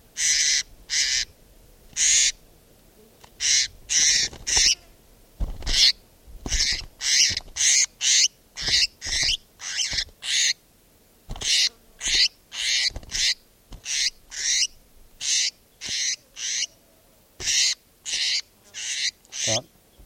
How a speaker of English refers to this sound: This is bird 458.